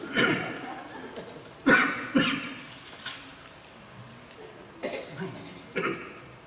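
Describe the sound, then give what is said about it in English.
A person preaching a sermon coughs and clears their throat repeatedly in a series of harsh, irregular bursts with short pauses between them and no talking. “You see, you start preaching on the devil and things get all in your throat. I hadn't coughed all day, hardly. Hadn't gagged.”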